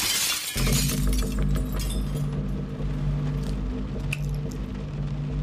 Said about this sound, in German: Er hat die Scheibe eingeschlagen, die Tür von innen aufgeschlossen.